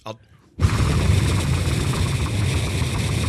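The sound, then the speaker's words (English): After a brief quiet moment, the engine of the Skycopter traffic-update helicopter kicks in with a loud, steady roar, a dense low rumble with a hissing wash on top that holds constant to the end. “From the Skycopter.”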